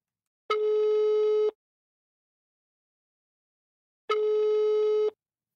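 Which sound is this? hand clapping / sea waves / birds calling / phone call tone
phone call tone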